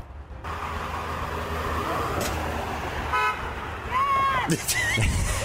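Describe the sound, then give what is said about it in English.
A construction truck's horn gives a quick, fairly loud beep over a steady rumble of road traffic, with a brief tonal squeal following shortly after. “One quick beep.”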